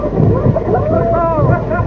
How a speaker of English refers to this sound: Oh! Do you hear that? For the first time in history, we've got our hooter going. Oh, it's absolutely fantastic.